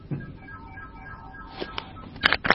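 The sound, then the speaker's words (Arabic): Faint electronic beeps and tones from a phone someone is playing with, a few steady notes followed by short clicky bursts of key presses near the end, with no talking. “من عم بيلعب على التليفون؟”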